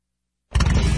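After half a second of silence, a Victory motorcycle engine abruptly bursts to life and roars loudly, its deep rumble pulsing steadily with no one speaking.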